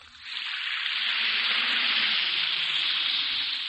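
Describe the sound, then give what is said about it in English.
An Alka-Seltzer tablet fizzes steadily in water, a dense, even crackling hiss that rises within the first moments and holds constant throughout, with no voices. “Listen to it fizz.”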